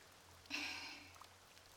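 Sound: light rain pattering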